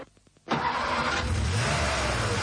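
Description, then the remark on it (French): A car engine cranks with a few quick rhythmic turns, then catches and roars loudly, revving steadily as a man drives away in his car. “Il a pris sa voiture. Regardez.”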